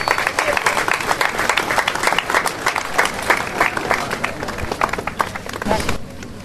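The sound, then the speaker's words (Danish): A crowd at a memorial evening for the crime in Norway applauds, with many hands clapping in a dense, steady patter that stays loud for several seconds before thinning out and fading at the end. “Så giv jer selv en hånd.”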